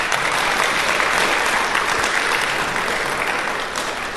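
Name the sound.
audience round of applause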